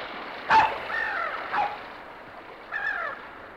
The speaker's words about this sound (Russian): Что это? Кажется, собака лает.